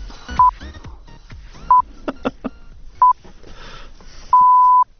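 Four clear electronic beeps at a steady pitch, the final signal beeps before the news is read on a broadcast: three short ones spaced about a second apart, then a longer sustained tone, with scattered clicks and faint noises in between.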